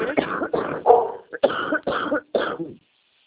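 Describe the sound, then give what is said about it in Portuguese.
A loud smoker's cough: about six harsh, raspy hacks in a rapid irregular fit, then silence, with no talking. “É, eu tô tossindo, tosse fumante, nossa.”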